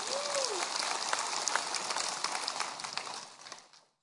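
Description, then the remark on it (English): A crowd applauds the good news of being saved through Jesus Christ, with steady, dense clapping that holds for about three seconds before tapering off and fading out. A brief tonal note sounds at the start. “You can applaud that if you want to.”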